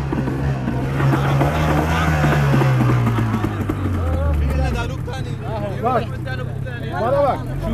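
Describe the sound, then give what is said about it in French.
The outboard motor of an inflatable boat for about ten people, started by a smuggler to take migrants across the Aegean Sea at night toward Chios, drones loudly and steadily, then its pitch sags and it fades after about five seconds, leaving people's voices talking. “C'est lui qui a démarré le bateau.”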